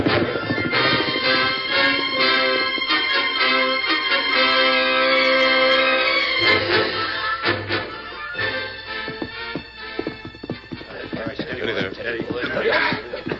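Horses set off as riders mount and ride away, with a burst of whinnying followed by a scramble of hoofbeats and clattering, all in a slightly muffled, narrow-band recording with a busy, crowded sound.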